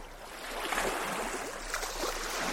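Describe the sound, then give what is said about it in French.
Gentle sea waves wash in a soft, continuous hiss of moving water, steady, with slight swells in loudness and no voices. “Et alors, je ne veux pas retourner le couteau dans la plaie, mais vous vous souvenez comme c'est agréable d'être bercé par les vagues ?”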